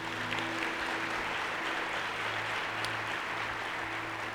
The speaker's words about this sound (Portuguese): Você pode aplaudir a Jesus?